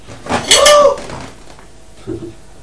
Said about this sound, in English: you've knocked Mummy's breakfast over. That's naughty.